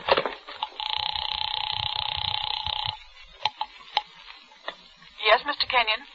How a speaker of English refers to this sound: The house phone.